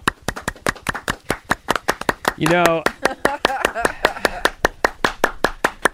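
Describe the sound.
Steady, rapid hand clapping runs through the whole stretch, sharp even claps roughly five or six per second, with a voice speaking briefly over them partway through.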